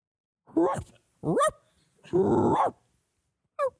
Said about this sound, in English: A puppy.